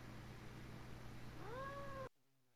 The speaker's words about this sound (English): It's a very unhappy cat.